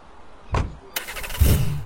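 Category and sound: vehicle, getting into car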